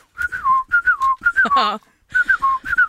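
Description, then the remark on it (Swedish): A person whistles a great tit's song, repeating a bright two-note phrase that dips from higher to lower pitch, interrupted midway by a brief, harsher voiced squawk before the whistling resumes. “Ja, kråkor, talgoxar och... oregistrerade vapen.”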